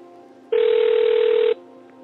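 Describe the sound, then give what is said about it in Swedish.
A telephone rings once, a single steady electronic burst lasting about a second, loud against a quiet, faintly humming background with no voices. “Jag ser inte vad det står på telefon.”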